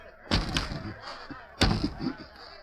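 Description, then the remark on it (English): Two heavy thumps about a second apart as Fairchild, the editor, with his back to the window, beats on the glass pane with his bound hands, each with a short ringing rattle. The blows are fairly loud, with no talking. “Fairchild turned his back to the window and with his bound hands beat on the glass.”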